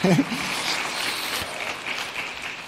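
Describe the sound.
A crowd claps steadily for the day's teacher, a dense wash of applause for a few seconds, with a brief voice heard at the very start.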